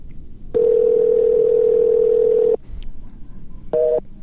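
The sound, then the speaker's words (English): A loud, steady telephone tone drones for about two seconds, drops away, then returns briefly as a short two-pitched beep over faint line hiss after a call to Alan Lee fails to connect. “I think his phone died.”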